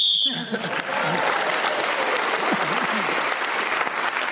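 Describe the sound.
A short, sharp whistle blast sounds at the very start, ending the round while Paul Merton is speaking, immediately swallowed by loud, sustained applause from an audience, with a few voices faintly audible in the crowd.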